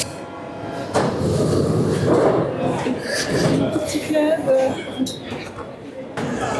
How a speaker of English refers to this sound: But so I'm going to push the green button. Here we go. Green button. Door open. People coming in. I'm going out.